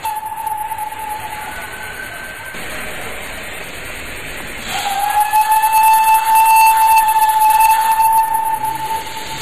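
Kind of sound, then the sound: vehicle, steam locomotive releasing steam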